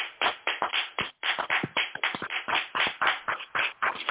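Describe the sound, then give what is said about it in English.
A round of applause: many hands clapping in a dense, steady patter that carries on without a break for about four seconds, with no voices over it. “So I just want to give a round of applause.”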